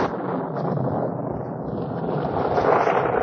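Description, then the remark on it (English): A sudden cloudburst: heavy rain pours down in a dense, steady roar of hissing noise that swells slightly toward the end, with no voices over it. “Goodness, it's a cloudburst.”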